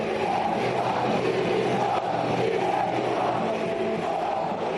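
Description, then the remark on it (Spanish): Football fans whistle and jeer in protest as they see off their team, a dense, steady roar of massed voices threaded with shrill whistling that holds at a constant loud level throughout, with no one speaking over it. “La afición está harta y despidió al equipo con una importante pitada, como acabamos de escuchar.”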